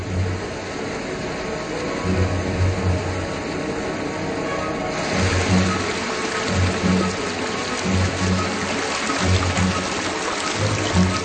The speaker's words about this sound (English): Sapphire blue melt lakes are the first sign that a dynamic process is underway. Each lake forms in a matter of days, expanding until it's miles across and starts to overflow. The spillwater then carves its way through the ice.